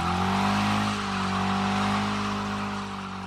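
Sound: car engine roaring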